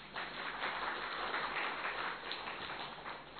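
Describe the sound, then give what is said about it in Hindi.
A crowd claps steadily for a few seconds, a dense, even patter of many hands with no voices on top, moderately loud. “ताली बजाओ जरा।”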